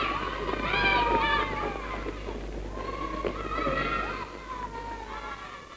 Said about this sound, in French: À l'école. La récréation.